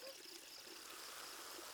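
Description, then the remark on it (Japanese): Steady fizzing hiss of a carbonated drink, a dense crackle of tiny bubbles, continuous and fairly quiet with faint liquid trickling beneath. “では音だけじゃぞ。シュワシュワ聞かせてやるからの。”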